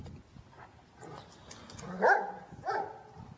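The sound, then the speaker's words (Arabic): Three dogs of different breeds, a local street dog, a Dalmatian and a third breed, bark in two clear bursts, one sharper near the middle and another shortly after, with fainter yips and low background noise around them; no one speaks. “هنا في تعاملات بقى بين الكلاب وبعضها، وفيه لغة، التلاتة من فصائل مختلفة.”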